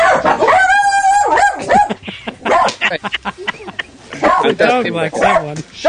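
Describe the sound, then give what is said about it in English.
A dog barks on cue as a countdown entry titled Bad Will is read out, starting with a drawn-out yelping whine and then a series of sharp, loud barks, with a person talking over and between them. “Retitled Bad Will on cue. Maybe he thought I said Bad Wolf, and therefore getting a little bit...”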